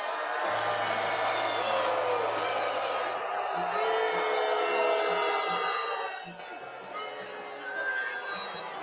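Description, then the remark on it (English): A large crowd boos United States Senator Lindsey Graham as he is introduced, a dense, sustained roar of voices with scattered shouts, easing briefly near the end before swelling again. “But how's he get reelected with all those boos?”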